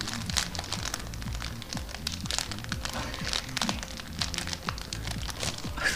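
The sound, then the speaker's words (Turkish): A nylon plastic bag is crinkled continuously as foley, producing dense crackling and popping that imitates a fireplace fire, steady for several seconds with no talking. “Naylon torbayı hışırdattım vallahi.”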